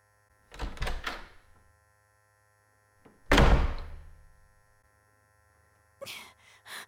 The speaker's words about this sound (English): There. The door. Home.